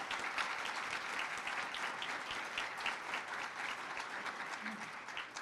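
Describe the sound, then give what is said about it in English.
Steady applause from an audience at a White House event hosted with the Department of Labor, given for Secretary of Labor Hilda Solis, fills the whole stretch, a dense wash of many hands clapping at an even level with no voices rising above it. “Please, another round of applause for Hilda.”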